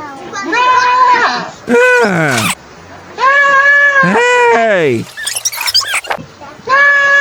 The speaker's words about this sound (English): That's a gay goat right there.